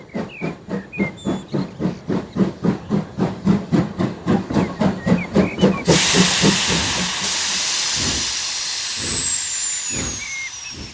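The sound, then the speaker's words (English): A steam locomotive chuffs in rapid, rhythmic puffs, then releases a loud, sustained hiss of steam that fills the air, with a faint high whistle-like tone trailing above. “Robin and Daisy see a train driver and a train.”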